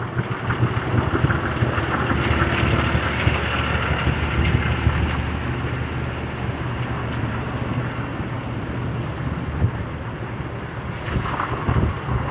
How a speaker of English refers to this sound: I gotta walk past these trucks, they're getting kind of noisy.